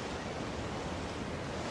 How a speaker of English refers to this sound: Waves roll ashore.